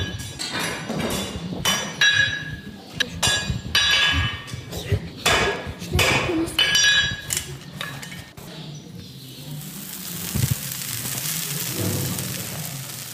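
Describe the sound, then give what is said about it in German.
A farrier at the Ugenhof near Herbrechtingen, Germany, working with fire and hammer, hammers a horseshoe: a rapid, uneven series of loud, bright metallic strikes that ring with a high clang, then fade into a steady rushing hiss. “Mit Feuer, Hammer und ganz viel Huf.”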